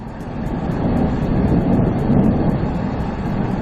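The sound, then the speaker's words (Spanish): A deep, continuous rumbling roar of the Cumbre Vieja volcano erupting on the island of La Palma, throwing out ash and magma, loud and steady with low-frequency energy throughout and faint crackling bursts on top, no voices present. “Lejos de amainar, la tormenta de ceniza y magma del volcán de Cumbre Vieja ha aumentado en intensidad este pasado fin de semana.”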